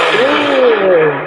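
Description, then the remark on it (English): A replayed recording of a lightning strike on water: a loud, steady burst of harsh hiss and crackle lasting just over a second, with a faint wavering tone running through it and no voices. “So imagine the tremendous amount of heat that comes from that strike.”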